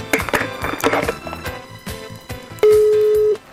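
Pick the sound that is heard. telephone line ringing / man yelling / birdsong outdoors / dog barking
telephone line ringing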